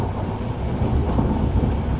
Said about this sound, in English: Hear that? It's thunder. Thunder. Might see some lightning as well.